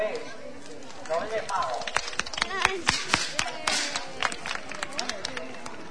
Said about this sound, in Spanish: La escalera, bueno, Melchor el primero en bajar. Un aplauso, ¿no?